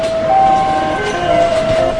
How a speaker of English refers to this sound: A modern car plant, by the way, sounds a lot like a casino. The automated gear plays little songs to let you know that it's running. Driverless robot carts glide up and down the aisles like R2-D2, delivering doors and other parts.